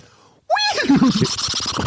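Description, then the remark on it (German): A person imitates a horse's whinny, a loud, wavering vocal call that rises sharply and then shakes downward in quick pulses, followed by breathy, rattling sounds. “Ich kann nur 1 nachmachen. Das waren doch gerade 2 nacheinander.”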